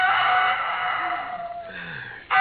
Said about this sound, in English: Oh, I could have slept if it hadn't been for that darn rooster.